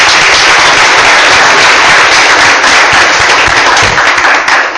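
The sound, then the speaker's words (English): A loud, sustained round of applause from a crowd at a city council meeting, many hands clapping densely and steadily for several seconds with no voices standing out. “I think we need to give him a round of applause because he's done a fantastic job.”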